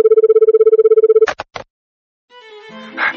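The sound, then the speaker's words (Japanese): A telephone rings for a prank call with a steady warbling tone for just over a second, followed by a few quick clicks as it's picked up, then a faint muffled voice comes through the line. “さあ続きましては、皆さんお待ちかね、今週の思いっきりいたずら電話のコーナーです。”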